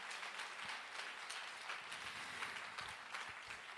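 A room full of people clapping steadily, a dense, continuous patter of hands that stays even in loudness throughout, with no voices standing out.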